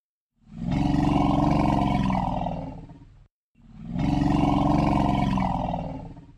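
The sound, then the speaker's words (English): Two long, deep elephant rumbles, each lasting about three seconds with a short pause between them. They are loud, steady and resonant, with a throaty vibrating quality and no talking. “And here's the elephant rumble.”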